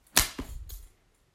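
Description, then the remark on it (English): A sharp crack of a leather belt used as a whip on skin, followed by a softer second slap and a third lighter lash, all within about a second with no voices. “Big, long slashes over that pretty skin.”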